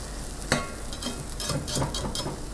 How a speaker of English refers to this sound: They've turned a little bit translucent, and I'm gonna give my eggs one final little whisk and pour them over the shallot and garlic. Turning my heat back up to high.